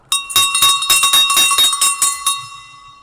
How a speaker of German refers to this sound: Oder für was ist die Glocke? Das ist eine klassische Blechschelle.